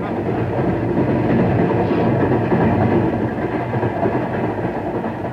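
A passenger train car, with Marlin as the next stop, rolls along the rails with a steady, heavy low rumble and a dense rattling clatter that holds at an even loudness throughout, with no voices.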